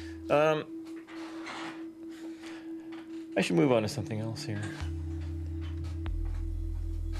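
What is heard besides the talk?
electronic tones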